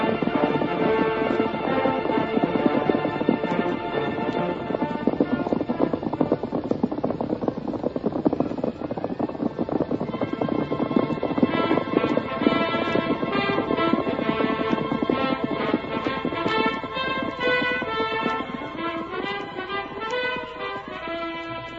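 Rapid, steady hoofbeats of a galloping white horse, traveling fast and getting further away, drum along beneath sustained music, holding a constant pace throughout and easing off only slightly toward the end, with no voices.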